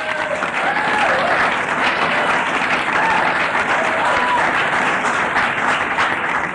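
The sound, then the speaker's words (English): Steady, dense applause from an audience welcoming folk musician John McCutcheon of Dungannon, Virginia, onto the stage, a loud continuous patter of many hands clapping with a few faint voices mixed in underneath. “Let's clap him onto the stage.”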